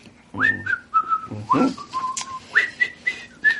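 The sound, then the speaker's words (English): A person whistles a short, jaunty tune, with clear bright notes hopping up and down in quick phrases, each note sliding briefly into the next, over a quiet background. “I'm whistling a jaunty tune.”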